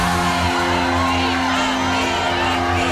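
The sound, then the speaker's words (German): A whole stadium crowd screams and cheers continuously, a dense roar of many voices with whoops rising out of it, loud and sustained throughout. “Erlebe, wenn ein ganzes Stadion schreit.”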